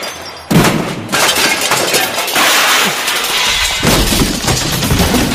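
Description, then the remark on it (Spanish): A sudden heavy smash as a hammer thrown by Sandra Myers for Spain in the hammer throw hits the Olympic cauldron, followed by several seconds of loud, dense crashing and clattering debris, like shattering glass and metal, with no voices. “Acaba de cargarse el pebetero de un martillazo.”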